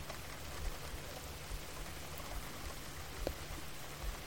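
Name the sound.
rain falling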